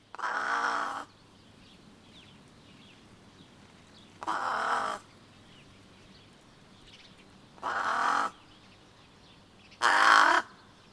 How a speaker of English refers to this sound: Some birds are found all across this band of Palearctic Hot Desert, from Africa to the Middle East to Western or Central Asia. One example is the brown-necked raven, Corvus rufocalis.